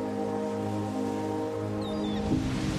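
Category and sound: nature, ocean waves breaking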